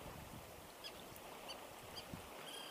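Seagulls call a few times over the steady wash of waves on the seashore, their short cries spaced about half a second apart.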